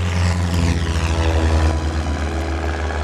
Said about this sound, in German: Dann setzt er sich wieder in seinen Flieger, wirft den Motor an, rollt zur Startbahn und gibt Gas.